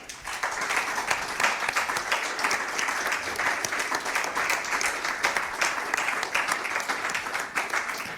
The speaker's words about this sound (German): Ganz lieben Dank, großen Applaus noch einmal.